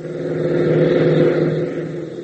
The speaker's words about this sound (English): Then Tank and Gale race into the hangar, reappearing within seconds in a jeep, and race across the field.